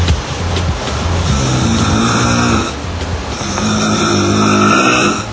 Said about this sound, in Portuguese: Esse aí que dorme profundamente e ronca.